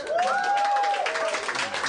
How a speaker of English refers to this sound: But don't clap, it's throwing me off.